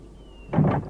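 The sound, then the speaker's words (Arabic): A door is pushed open with a short, heavy scraping rumble, following a moment of quiet. No one speaks. “افتحوا، افتحوا الباب.”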